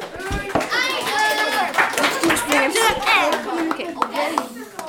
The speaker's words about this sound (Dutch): Goed gedaan allemaal. Een groot applaus voor alle deelnemers.